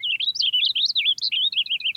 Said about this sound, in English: And purple finches don't throw in that sharp, buzzy note that tags many house finch songs. Purple finches in the West sing a little differently from those in the East.